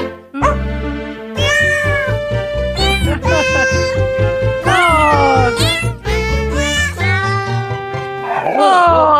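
Cat meows pitched and sequenced into a jaunty Christmas novelty melody, sliding up and down over a steady bass and music backing, loud and continuous throughout, with a few dog barks mixed in.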